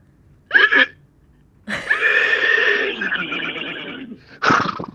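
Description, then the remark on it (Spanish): A person imitates a horse's neigh: a short snort, then a long, strained whinnying cry lasting over two seconds, and a final sharp burst, all loud and without speech. “Bueno, es el caballo.”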